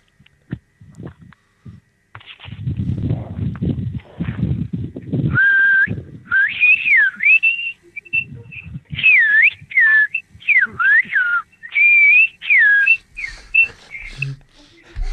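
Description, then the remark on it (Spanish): A person whistles a lively tune, a run of clear, bending notes with short pauses between phrases, after a few seconds of low rumbling and muffled thumps. “Venga, le voy a silbar algo a ver si se puede.”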